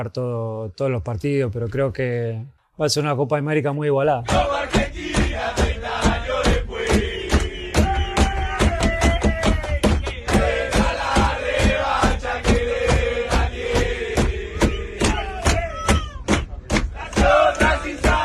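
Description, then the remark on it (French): A group of men from the Argentine team chants loudly together aboard their bus on the way to training, with steady rhythmic clapping or banging throughout, after a few seconds of a single voice singing alone. “L'ambiance dans le bus des Argentins qui partaient à leur entraînement.”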